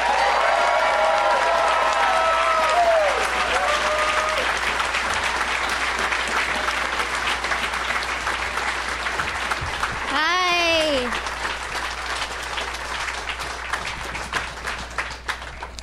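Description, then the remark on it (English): A crowd applauds steadily for about sixteen seconds to welcome guests onto a show, dense and loud, with voices shouting and a high rising whoop partway through before the clapping thins slightly at the end. “Let's give a big warm welcome to...”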